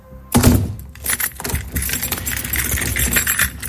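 Keys jangle and clink in the lock of an outside door as it is locked at night, a bright metallic rattle that starts abruptly and keeps clattering steadily for several seconds with a few sharper clicks, no voices.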